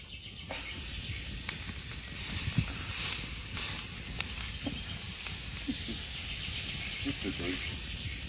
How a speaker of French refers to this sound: C'est le crépitement d'une viande cuite au feu de bois. Rien que ça!